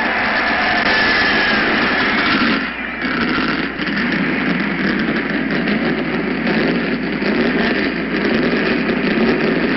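A loud race car engine starts and idles with a dense, steady roar, briefly dipping about a third of the way through before settling back into a continuous rumble.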